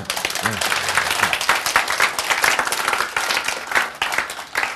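An audience applauds steadily for about five seconds, a dense, continuous patter of many hands clapping at even loudness, with a brief voice sounding underneath near the start.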